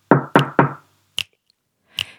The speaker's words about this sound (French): Dans ma maison, quelqu'un frappe à la porte.